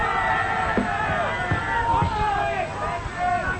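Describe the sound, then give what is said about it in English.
An audience at a request show shouting out song requests, overlapping voices yelling and calling out at once over a steady hubbub, loud. “Everyone's shouting out …”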